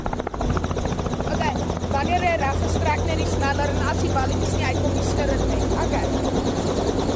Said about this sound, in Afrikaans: so iemand moet vir die helikopter betaal en is baie duur vir elke uur wat hulle vlieg